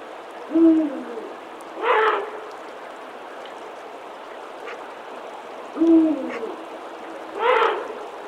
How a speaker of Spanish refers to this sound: plena noche, en pleno invierno, un búho real lanza su penetrante y lúgubre llamada.